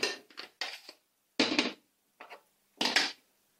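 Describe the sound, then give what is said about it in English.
Spoons of cooked rice are scooped and dropped into two small glass jars with lids, giving a series of short, irregular scraping and clinking bursts with brief pauses between them and no talking. “There they go, two little glass containers of rice.”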